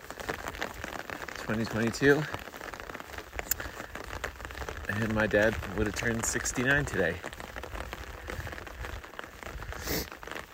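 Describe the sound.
Steady rain patters on a surface with a continuous crackling hiss, while a man speaks quietly over it in short phrases.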